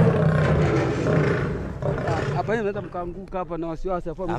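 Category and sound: animal, lion roaring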